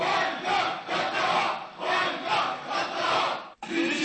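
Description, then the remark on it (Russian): A big stadium crowd of home football fans sings the Bohemians club anthem before the match, in loud, rhythmic swells, many voices merging into one steady roar, with a brief break just before the end. “Перед началом матча болельщики хозяев поют гимн «Богемки» в роли дирижера у кромки поля, все тот же забавный сумчатый.”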